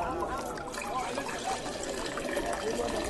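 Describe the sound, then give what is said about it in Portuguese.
Water pours steadily into large stone jars, filling them to the brim, a continuous splashing and gurgling at an even, moderate level throughout, with no pauses. “E eles encheram os potes até a boca.”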